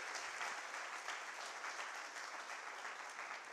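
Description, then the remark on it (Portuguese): A church audience applauds God at the preacher's call during a sermon, a dense, even wash of many hands clapping at once with no pauses, holding the same loudness from start to finish. “Se você crê, diga amém e dá uma salva de palmas a ele.”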